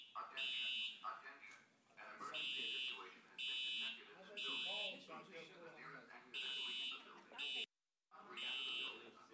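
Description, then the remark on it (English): A loud, shrill electronic alarm beeps in repeated bursts of about a second each, with short gaps between them, while people talk and move around in the background. “We got to go hit the alarm button in there.”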